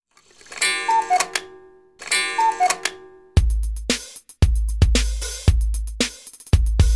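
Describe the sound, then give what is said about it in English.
A bright, chiming melody gives way to a steady tick-tock beat of sharp clock-like clicks over deep thumping bass, loud, with no one speaking. “Tick tock. Tick tock. It's 8 o'clock.”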